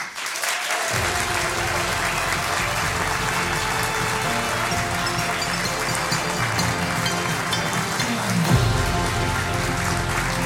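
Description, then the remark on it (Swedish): Sustained applause from an audience welcoming Sveriges Radio's correspondents onto the stage, a dense, steady crackle of many hands clapping that starts abruptly and holds at an even, loud level throughout, with a slight swell near the end. “Och jag vill att ni nu gör er redo att igen med applåder välkomna upp på scen Sveriges Radios korrespondenter.”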